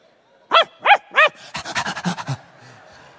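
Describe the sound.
A voice imitates a dog: three loud, rising-and-falling barks in quick succession, then a rapid burst of about eight breathy panting huffs, alone.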